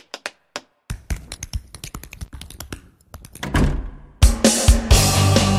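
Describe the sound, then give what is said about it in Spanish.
Crisp tap-dance steps clatter on a hard floor in quick, uneven bursts. Toward the end the taps speed up and are swamped by louder, denser noise. “¿Cómo era lo del tap? Así, vea.”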